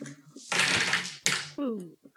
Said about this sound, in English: So guys, you had some bags in front of you. And, you know, if you open those up, y'all got a fresh new set of dice hanging out in there.